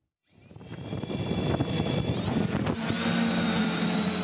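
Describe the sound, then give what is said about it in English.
A small drone whirs into life after a brief silence, its steady high-pitched motor whine climbing a little in pitch midway and holding fairly loud, with no one speaking. “It shouldn't take the whirring of a small drone to remind you that many people are awfully leery of these little aerial contraptions, fearing threats to privacy and also to airplanes.”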